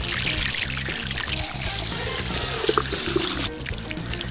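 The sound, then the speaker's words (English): Water is poured steadily to melt ice, a continuous splashing gush with a few brief higher clinks and trickles partway through, and no voices. “Let's melt them with water.”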